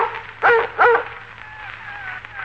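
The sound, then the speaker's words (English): A dog, Laddie, at the front door at night gives two sharp, loud barks in quick succession, followed by a thin, wavering high-pitched whine that trails on quietly. No one speaks. “John Doran, startled at the sound once so familiar, flung open the door, and Laddie came in.”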